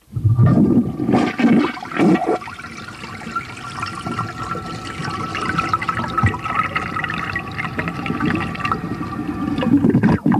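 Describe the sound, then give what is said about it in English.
A toilet flushes with a loud gurgling whoosh in the first couple of seconds, then water keeps rushing and hissing steadily as the tank refills until the end. “More toilets are flushed in the United States than in any other country in the world.”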